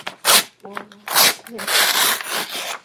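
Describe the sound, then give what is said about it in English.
Paper crinkles and rustles loudly in a series of crisp, scratchy bursts that grow denser toward the end, with a brief voice sound mixed in early on. “Because that's going to make a lot of noise. It's a cool sound. So let's wait till the paper's done.”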